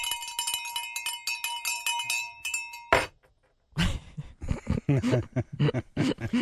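A handbell rings rapidly and loudly for a few seconds on the Chaz and AJ morning radio show, then clunks as it is set down. After a short silence, people begin talking.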